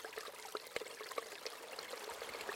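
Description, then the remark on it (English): A babbling stream flows steadily over stones, a continuous bright gurgle with small splashes and droplet pops scattered throughout, moderately quiet, with no voices. “Listen to the stream laugh and the laughter stream. Listen to the round words roll over stones.”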